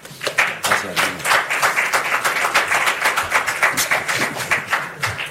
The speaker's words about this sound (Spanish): Ahí están los palmeros, que me aplauden